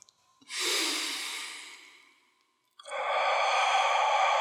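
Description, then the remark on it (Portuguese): Slow, deep breaths, in through the nose and out through the mouth: a long airy exhale that fades away, a brief pause, then another full, steady breath of rushing air. No one speaks. “Continua respirando assim.”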